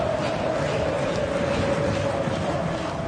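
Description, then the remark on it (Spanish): A large stadium crowd applauds and cheers for a minute in tribute to the 71 victims of the 29 November tragedy, in the 71st minute of a friendly between Palmeiras and Chapecoense, Chapecoense's first match after the accident: a dense, unbroken roar, steady in loudness, with a faint sustained tone underneath. “chape e aplausos durante um minuto às 71 vítimas da tragédia de 29 de novembro.”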